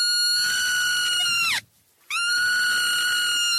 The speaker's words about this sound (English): I was holding a baby marmot and suddenly it screamed and I had this emotional response. And I wondered why I'm having an emotional response to a rodent, you know, screaming. And just for reference, this is what a screaming baby marmot sounds like.